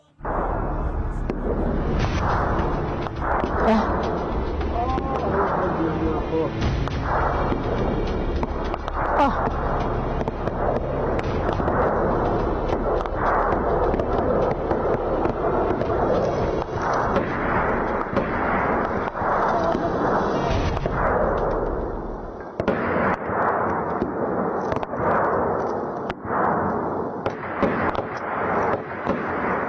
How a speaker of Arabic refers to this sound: في أرض يشرف عليها العدو من كل جانب، لا ساتر يحمي من رصاص ولا منجا من نيران المتوسط والخفيف من الأسلحة، يخترق هذا المجاهد قواعد الاشتباك ويجتاز خطوط النار وشبكته الممتدة في إحدى جبهات الجوف ليخلع جسد رفيقه الجريح.